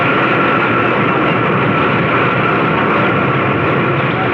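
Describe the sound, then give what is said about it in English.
A large helicopter roars loudly as it comes down at a village to pick someone up during the war, its engine and rotor noise a dense, steady wash that holds without letting up, with no voices. “Until Zaslo came down to get me in a big helicopter.”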